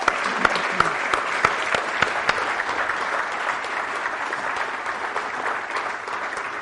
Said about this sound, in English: Give you a big round of applause again. Thank you.